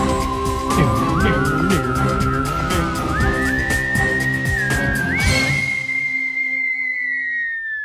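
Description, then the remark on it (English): The Geek Library segment jingle: a short whistled tune climbs in stepwise notes over a bright, rhythmic instrumental backing, then ends on a long held high note that lingers and fades with a spacious, echoing reverb. “I don't know the reverb on my whistle.”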